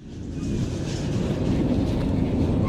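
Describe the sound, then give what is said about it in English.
A freight train in Mexico rolls steadily along the tracks, a continuous heavy low rumble with faint rattling, fairly loud throughout, with no voices. “There's a network of freight trains that runs the length of Mexico from Guatemala up to the U.S. border.”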